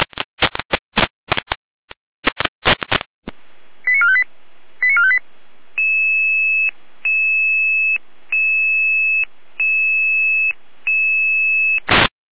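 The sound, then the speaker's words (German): Fire brigade radio alerting for a forest fire at Lemnitz am Teich: a rapid burst of sharp electronic clicks and bursts, then a sequence of steady two-tone alert beeps repeating in even pulses, like a radio pager alarm, loud and with no voices. “Eine Schiene mit Alarmierung.”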